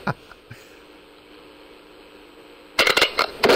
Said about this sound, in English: The damn gunshot. That's what Reiner had on here.